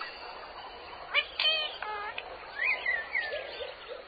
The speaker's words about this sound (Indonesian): Alhamdulillah, dengan kedua mata, kita bisa melihat makhluk ciptaan Allah yang indah. Contohnya, seperti burung-burung yang berada di sini.